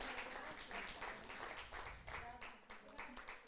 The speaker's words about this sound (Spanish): Den un aplauso fuerte al Señor en esta noche. Amén.